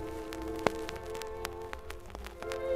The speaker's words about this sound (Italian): Con l'aprile la prima pioggia, la plovisine, un motivo che piaceva al Carducci non meno che al D'Annunzio.